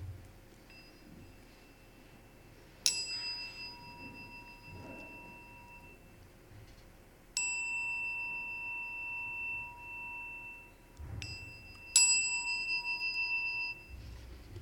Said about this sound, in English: So I will ring this gong three times. The ringing of the gong three times means that we are being called to prayer. And so after I ring this gong three times, I will ask each person that is able to rise.